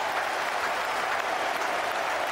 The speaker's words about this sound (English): He's got it away. That's well played. Listen to the roar goes up.